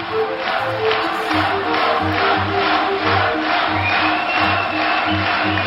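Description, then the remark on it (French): A loud crowd of supporters cheers at candidate Jacques Chaban-Delmas's rally in Boulogne-Billancourt on 25 April, with rhythmic chanting pulses and steady roaring voices throughout, no single speaker standing out. “Parmi la foule des sympathisants qui en font leur favori, on retrouve un certain Nicolas Sarkozy.”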